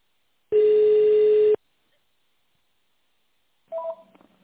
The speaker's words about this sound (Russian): Если вы знаете внутренний номер сотрудника, наберите его в тональном режиме.